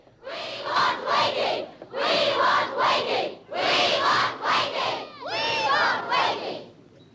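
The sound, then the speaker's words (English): A large crowd of pupils chants together outside a school entrance in four loud, rhythmic bursts, each a few beats long with brief pauses between, voices shouting in unison. “He passes through waiting teachers and staff as he heads for the school entrance and the crowds of chanting pupils outside.”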